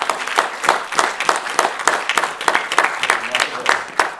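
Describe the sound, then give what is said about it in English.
An audience claps steadily for about four seconds, a dense, bright crackle of many hands with small surges, and faint murmuring voices blend in underneath. “To give us a turn of applause.”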